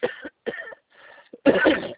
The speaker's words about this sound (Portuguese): Desculpa, estou com um pouco de tosse hoje, mas tudo bem, pode falar.